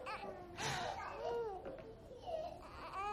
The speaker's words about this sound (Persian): کوچولو چرا گریه میکنی؟